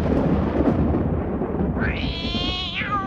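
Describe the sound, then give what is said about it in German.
A loud, rumbling storm with rolling thunder fills the whole stretch, and near the end a drawn-out cat meow rises above the roar. “Mein Sturm soll dem um die Ohren wackeln, dass ihm jeder Spaß vergehen wird.”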